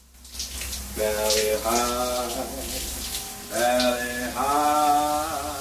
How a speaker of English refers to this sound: Ted wanders through the dormitory, confused at the sounds coming from the bathroom. Harry stands underneath the shower.